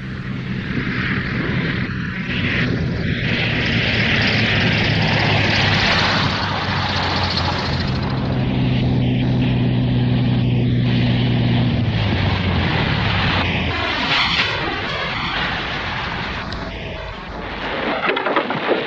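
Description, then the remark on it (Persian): A propeller plane's engine drones loudly, a steady low hum under a broad roaring rush that eases off toward the end as the aircraft comes in for a landing. “Plane's coming in for a landing.”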